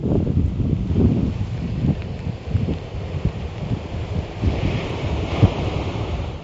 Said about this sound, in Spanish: Así soplaba el viento a primera hora de la mañana en Amariña.